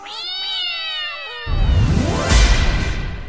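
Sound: cat meowing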